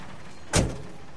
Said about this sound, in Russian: «Вы совершенно промокли», — с сожалением констатировал человек, открывая дверь со своей стороны и пропуская в кабину шум улицы.